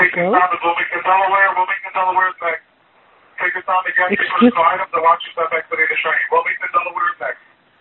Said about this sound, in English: Does somebody, can somebody mute their phone, whoever that was? I've got somebody yelling in the background.